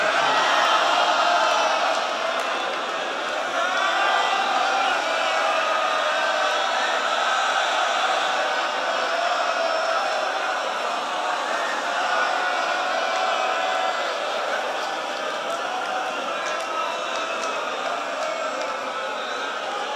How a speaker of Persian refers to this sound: بعضی ها دارن جیغ میزنن. مردا دارن جیغ میزنن.